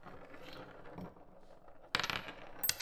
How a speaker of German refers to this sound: Die Musikschulkinder und Frau Vogelsang beginnen leise mit kreiselnden Münzen.